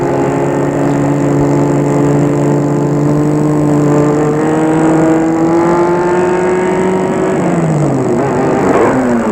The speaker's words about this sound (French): Et il va arrêter sa voiture.